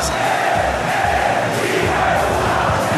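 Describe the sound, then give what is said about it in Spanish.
A football crowd at El Campín stadium roars and shouts insults at the referee, upset with the team, a dense, steady wall of massed voices with no clear words and no applause, holding loud for the whole stretch. “Ah, le están echando la madre al árbitro, ¿eh?”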